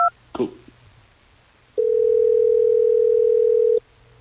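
A quick electronic dialing beep as the Hot 101.5 radio show places a phone call to a listener, then after a short pause a single loud, steady ringing tone holds for about two seconds before cutting off, with no one speaking.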